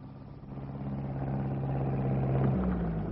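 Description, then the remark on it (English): A borrowed tractor driven by police drones steadily with a deep, throbbing engine hum that swells in loudness, then its pitch drops briefly near the end as the motor shifts. No voices are heard. “Now, look, can we borrow your tractor?”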